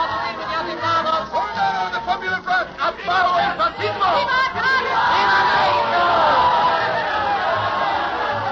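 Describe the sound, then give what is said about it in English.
A large crowd in Mexico in 1934 cheers and shouts for the newly elected president Cárdenas, many voices overlapping in a loud, dense roar that swells and rises into a sustained wall of cheering by the end. “They're cheering the new presidente, Cárdenas, elected by the will of the majority.”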